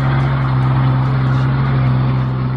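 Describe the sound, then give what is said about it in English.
A big truck heads up an ice road right behind the speakers, its engine droning steadily, a loud, low rumbling hum with a broad wash of road noise that holds constant throughout, with no voices. “Big truck headed up an ice road right behind us there.”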